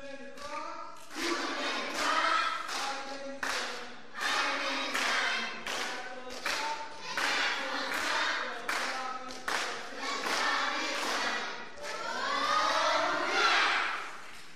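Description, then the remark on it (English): An audience claps and cheers for about fifteen seconds, with steady loud applause under a wash of shouting, chanting voices that swells again near the end. “Let's see how everybody's cheering and taking place.”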